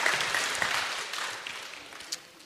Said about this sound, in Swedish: Vi ger alla en applåd här. Tack så mycket.